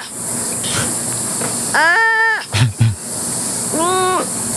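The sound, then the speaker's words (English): A sloth gives two high, wavering squeals with a reedy, harmonic tone. The first is longer and louder than the second, with a couple of soft thumps between them over steady hiss. “So I'm going to say in like a lion, out like, and I had never heard this animal speak and the sounds of this animal before, out like a sloth.”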